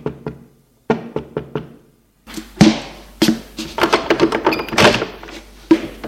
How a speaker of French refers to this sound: Un quart d'heure plus tard, on frappe à sa porte.